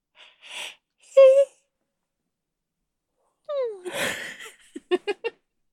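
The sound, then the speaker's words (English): A long, vocalized yawn sweeps downward in pitch with a breathy rasp, followed by four quick voiced puffs; a few short breaths and a brief hummed tone come before it. “I'm not going to yawn.”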